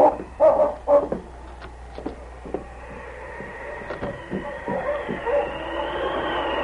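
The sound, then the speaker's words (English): Dogs snarling and barking in a scuffle by a creek bank in the snow, with a few loud yelping bursts at first, then a steady run of growls and sharp barks over a continuous background hum. “The dogs were still in a tangle, and the girl still lying in the snow.”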